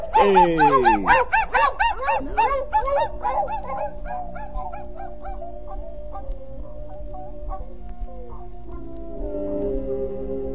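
A team of sled dogs pulling a sled carrying three riders in the cold barks and yelps in a loud, rapid, overlapping chorus for about four seconds, then thins out as steady musical tones take over.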